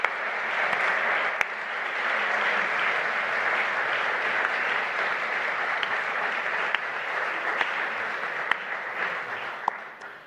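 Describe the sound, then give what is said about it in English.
Steady, dense applause from a sizable audience in a church, for a member who received the British Empire Medal for services to hockey, sustained at an even level for the full stretch with many hands clapping at once, loud. “we're giving you a wave, and we're giving a big round of applause.”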